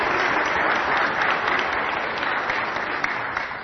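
A steady round of applause from a group, many hands clapping in a dense, even crackle that holds at a fairly loud level for several seconds before easing slightly at the end.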